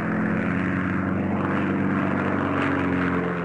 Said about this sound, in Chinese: 二战前和战争期间，德国都没有研发大型的运输机。这德军中的标配呢，就是外号“容克大妈”的那个容克52型运输机。